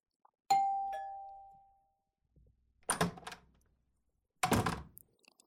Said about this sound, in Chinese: 学长，你终于开门了呀。